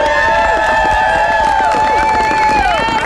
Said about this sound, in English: You can hear the crowd. Very enthusiastic for Jesse Royer, finishing in fourth place here in our Iditarod 2015.